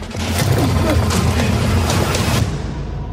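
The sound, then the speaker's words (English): Loud, dense action-movie explosions and gunfire, a heavy rumbling roar punctuated by several sharp blasts, intense, cutting off abruptly near the end; from the trailer of an action movie directed by Michael Bay. “Big explosions, big action.”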